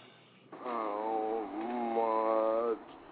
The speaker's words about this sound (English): I said I had to yawn after that one.